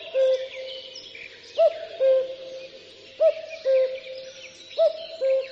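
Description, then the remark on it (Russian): A cuckoo calls its two-note 'cu-coo' three times at a steady, unhurried pace, clear, with faint high chirping and twittering in the background on a warm spring night. “Ночная кукушка дневную перекукует.”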